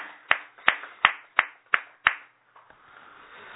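Six sharp, crisp hand claps in a steady, even rhythm, celebrating a 77th (kiju) birthday and a 76th birthday, each clap ringing briefly before the next, then the clapping stops and only a faint hiss remains. No one speaks.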